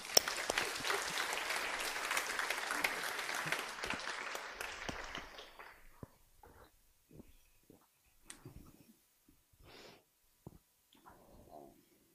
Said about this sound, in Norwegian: Og det gir vi en klapp for.